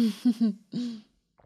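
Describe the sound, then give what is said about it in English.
A person clears their throat and coughs: a few quick, rough voiced bursts followed by one longer, harsher hack, then silence with a faint click at the end. “Sorry, me coughing so much, guys.”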